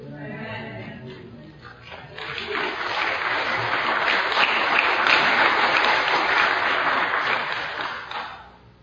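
An audience breaks into applause as a voice finishes speaking, the clapping swelling into a dense, steady roar for several seconds before tapering off at the end.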